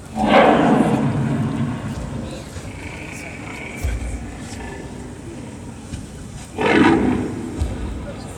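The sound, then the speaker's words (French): A big cat roars loudly, a long rumbling growl, then after a quieter stretch of low background sound a second, shorter roar follows; part of the atmosphere of the Piazza Grande at the 71st Locarno Film Festival. “Et c'est sur ce rugissement félin que nous commençons cette rubrique Cultiver Lausanne, avec un bref aperçu de l'ambiance de la Piazza Grande de Locarno.”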